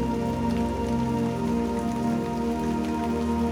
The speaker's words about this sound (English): The droplets fall down the window pane. The pitter-patter of rain on the roof.